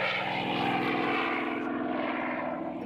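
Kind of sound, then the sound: vehicle, propeller airplane taking off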